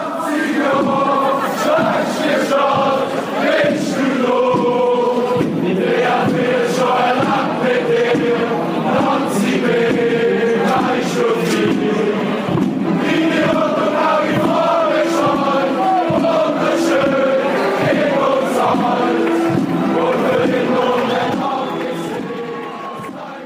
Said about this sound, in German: Denken Sie an ein nervenaufreibendes Spiel im Basler St. Jakob Park. Die Fans feuern laut ihren FCB an und schmettern Gesänge aus voller Kehle.